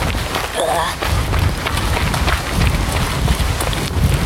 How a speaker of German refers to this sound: Und ja, es regnet jetzt sehr, liebe HörerInnen.